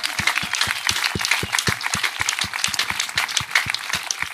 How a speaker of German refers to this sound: Und ich bitte um einen ganz, ganz großen Applaus, ja, mal für ihn.